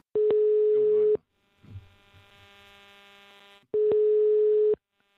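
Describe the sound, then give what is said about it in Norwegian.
A telephone ringback tone of a call placed to Herbjørn Hansson sounds twice, each steady electronic buzz lasting about a second with a quiet pause and faint line hum between, loud and clear as if heard through the handset. “Ja, vi kan prøve å ringe.”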